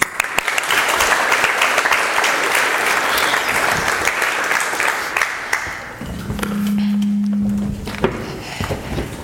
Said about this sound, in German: Also Applaus für das VOG.